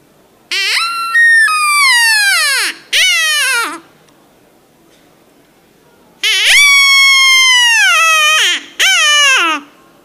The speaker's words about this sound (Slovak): No je to zviera, alebo čo je to? Väčšinou dostanem odpoveď, že nenamastené vráta. Tí, ktorí ste možno boli v Čechách toto zviera žije vo voľnej prírode, u nás, chvála Bohu, nie. Sú to ázijské jelene.